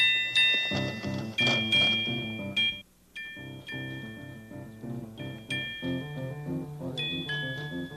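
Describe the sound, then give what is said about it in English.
A small trolley's bell rings out in bright, repeated dings as it moves along its track, over a gentle, steady musical accompaniment, with a brief pause midway before the chiming resumes. “Good old trolley going along his track, you know.”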